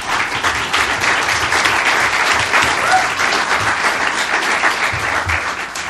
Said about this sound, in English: Thank you very much, all of our panelists. I think they deserve a big round of applause.